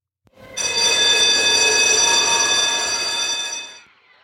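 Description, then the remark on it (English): A school recess bell rings loudly and steadily for about three seconds, a harsh metallic clanging buzz, then stops abruptly and leaves a short fading ring. No one speaks. “The recess bell rang and the kids flowed out of the schoolyard doors like water from a bursting dam.”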